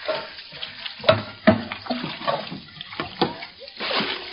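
Water sloshes and splashes in repeated scoops, like a bucket bailing water out of a boat, with sharp splatters every second or so over a steady wet churn, close and moderately loud.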